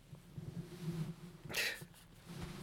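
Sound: sneeze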